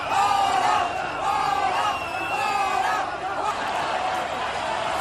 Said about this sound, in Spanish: don Felipe no tenga que escuchar esta sarta de abucheos y de gritos de los independentistas catalanes